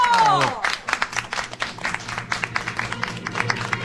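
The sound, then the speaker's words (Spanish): An audience applauds steadily for several seconds as an homage to the key, a dense, fairly loud patter of many hands clapping, with a brief voice calling out over it at the very start. “¡Un aplauso! ¡Bravo!”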